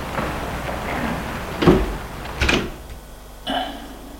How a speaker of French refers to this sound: Le domestique ferme la porte.